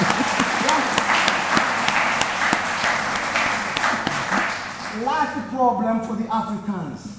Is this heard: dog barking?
no